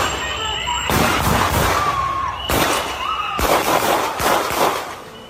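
A burst of ten gunshots fired by several immigration police agents at a man held on the ground, sharp cracks spaced irregularly over a few seconds, captured in a noisy, distorted mobile phone recording by a bystander, with muffled voices and commotion in the background.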